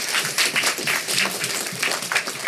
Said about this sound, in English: Yeah, y'all can clap for that. I appreciate it.